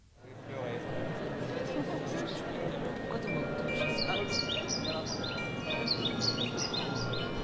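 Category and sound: bird, birdsong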